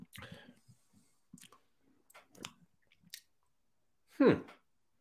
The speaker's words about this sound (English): I got a nice amber hue, bit of a hazy look to it. My first time trying this one. Let's give it a sip.